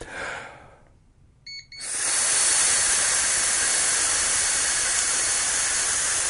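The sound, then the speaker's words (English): A short burst of breathy airflow, a brief pause, then a quick electronic beep from a breathalyzer, followed by a loud, steady rush of air as someone blows forcefully into the breathalyzer, lasting until the end. “I just want to make sure I blew through it.”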